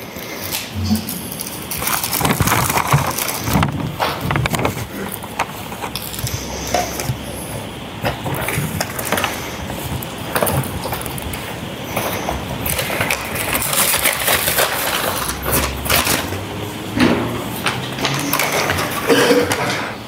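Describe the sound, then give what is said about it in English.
Continuous crinkling and rustling of wax paper and plastic bags as small glass fragments are rebagged, with occasional small clinks of the glass pieces shifting inside, steady throughout with faint murmuring voices in the background. “Small pieces of appears to be glass inside the wax paper. Okay. If you can rebag all that, we'll move to the next item.”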